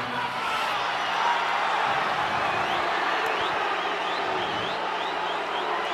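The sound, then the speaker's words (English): A large audience boos steadily and loudly throughout, a dense continuous roar of disapproval, with a few sharp whistles rising out of the crowd toward the end. “You're booing the story, right? You're not booing me.”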